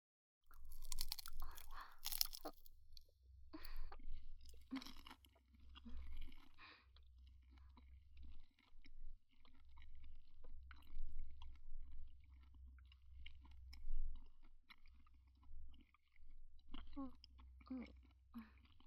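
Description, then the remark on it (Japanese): Soft, moist chewing of freshly made nori-wrapped rice dumplings seasoned with sugar and soy sauce, with crisp crunches and sticky mouth sounds repeating steadily over a low, constant hum, no talking. “出来たての海苔巻き団子だよ。お団子には砂糖醤油で味付けしてるから、そのまま食べてね。”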